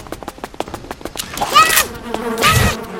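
A swarm of bees buzzes loudly, the droning hum rising and falling in waves over a rapid series of sharp clicking ticks.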